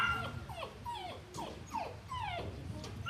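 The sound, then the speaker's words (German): Several St. Bernard dogs in an enclosure whimper and give short, high yips in quick succession, the cries sliding downward in pitch, over a low steady rumble of background noise. “Als Hauptattraktion gelten jedoch eindeutig die Gehege, in denen lebendige Vertreter der Schweizer Hunderasse bestaunt werden können.”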